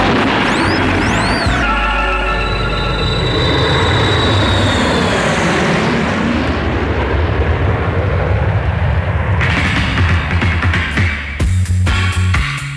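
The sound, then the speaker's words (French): A loud, steady airplane engine drone fills the whole stretch, a deep rumbling roar with a high whine sliding downward early on and no voices over it. “Et vu qu'on est dans un avion, tout plane?”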